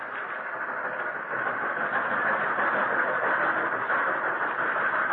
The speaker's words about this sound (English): Oh, it seemed as though the long train trip would never end.